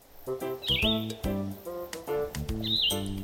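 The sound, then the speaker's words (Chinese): Two quick, high sparrow chirps ring out about two seconds apart, riding over a louder bed of tonal, music-like sound that fills the whole stretch. “麻雀真的好烦哦，他们根本就是害群之马，我也赞成赶走啦。”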